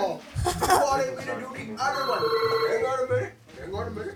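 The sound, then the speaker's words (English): A telephone rings loudly, its bright electronic trill repeating over a few seconds while voices talk underneath it. “Stupid phone.”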